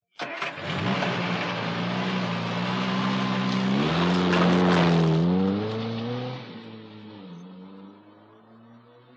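A car engine rumbles steadily, revs higher as the car pulls away and accelerates while being driven to someone's house, then drops to a quieter, fading hum. No one speaks.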